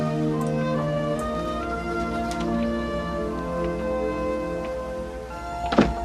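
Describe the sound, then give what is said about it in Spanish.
A door opens as a man arriving home by car enters, with a short knock-like thunk near the end, heard over steady, sustained musical tones with a few faint ticks scattered throughout. “Abre la puerta y entra.”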